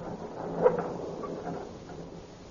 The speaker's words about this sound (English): Very well. I will open the gate.